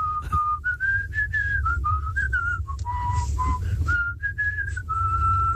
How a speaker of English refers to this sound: Whistling.